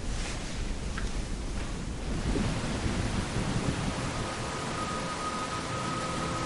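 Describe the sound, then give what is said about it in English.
A thunderstorm outdoors with deep, rolling thunder rumbling steadily beneath a constant hiss of rain, continuous, with no voices. “Oh, and have a safe trip home. It's pretty stormy out there.”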